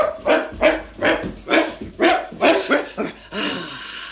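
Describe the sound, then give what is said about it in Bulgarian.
A dog barks loudly, firing off about eight sharp barks in a quick, steady rhythm, ending in a rougher, noisier burst. “иди с кучето!”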